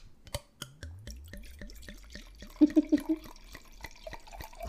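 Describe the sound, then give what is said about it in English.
Pinot Gris wine glugs steadily out of a freshly opened bottle into a glass in quick rhythmic pulses, the pitch creeping upward as it fills, with a brief cluster of louder gurgles partway through. “Oh, she's pouring.”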